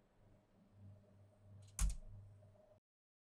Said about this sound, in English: At the end of the analysis, you will want to recover your sample. So you open the door, unlock the carousel, slide it out, and close the door again.